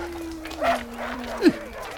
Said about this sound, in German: Die Aufregung war groß, als sie alle zusammen am nächsten Morgen zum nahegelegenen Hundeschlittenzentrum fuhren. Schon beim Aussteigen hörten sie das Kläffen vieler Hunde.